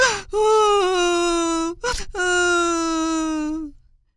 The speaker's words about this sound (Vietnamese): Em hốt hoảng chạy quanh tìm kiếm rồi khóc òa lên: "Chỉ tại mình ham chơi nên em bé đã bị bắt cóc rồi. Biết làm sao bây giờ?"